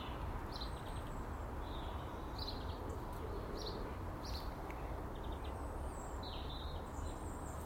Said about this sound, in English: Isn't that right, Mr. Blackbird?